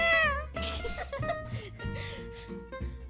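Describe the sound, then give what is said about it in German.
A person imitates a dog with loud vocal yelps: a falling whine first, then a run of short, rough barking bursts, with no other talking. “Ey, ich mach jetzt einen Hund nach.”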